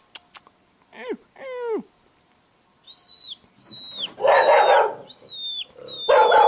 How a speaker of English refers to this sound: Look, they're still young, very young dogs. They look sweet, you know. A friendly dog.